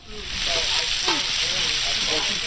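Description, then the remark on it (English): Sausages sizzle steadily in a cast iron skillet on a hot grill at a feed store in Bethel, a dense, crackling hiss that fills the whole moment, with faint voices murmuring softly in the background. “The smell of sizzling sausage welcomed customers as they entered the K300 feed store on Saturday.”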